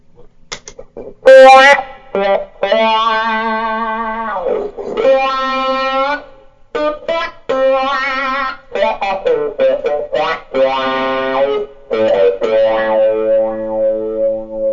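Clean electric guitar notes and chords pass through a Black Cat Moan wah pedal with no overdrive added, the tone sweeping widely between dark and bright in rhythmic rocking motions, with no distortion and no talking.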